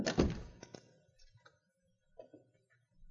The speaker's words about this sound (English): Shut the door and lock it.